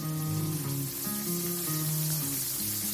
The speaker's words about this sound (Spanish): Eso que escuchas es la freidora funcionando a pleno rendimiento. Está friendo patatas para toda la tripulación.